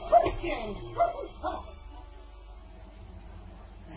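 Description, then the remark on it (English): A dog in a garden gives three short, yelping barks in quick succession, followed by a quiet stretch with faint whimpering and low background rumble. “Come on, Tommy. That's a good dog.”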